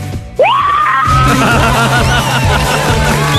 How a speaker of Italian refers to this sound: Allora attenzione, adesso alziamo il volume e tu ti caricherai e inizierai ad urlare per la carica energetica.